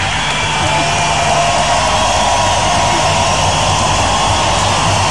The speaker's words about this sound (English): Well, the cheering is actually quite incredible. There was something like 10 minutes of cheering, Ed, when Nelson Mandela started his speech before he actually said a word from Wembley Stadium, absolutely jam-packed back in 1990.